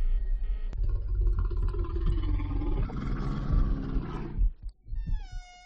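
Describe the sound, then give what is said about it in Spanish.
A loud bear roar from a feature film trailer rumbles and snarls for about four seconds, then breaks off into a few quieter, shorter sounds, with no one speaking. “El siguiente largometraje que nos traéis tiene como protagonista a un animal de esos de los grandes. Se titula Oso Vicioso.”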